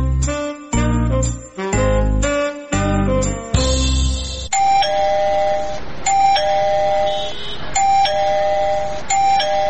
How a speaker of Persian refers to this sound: زنه چی شده که باز دروازه را زنگ زده؟